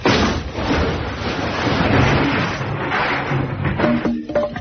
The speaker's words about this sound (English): is knocking out the bricks from the wall to put in the serving hatch. Now, I'm only taking 25 bricks out of this job, you see. Here we are. Now, you see, it's quite simple. Barry Bucknell. Here we are. Just one more brick to come out, and here we go.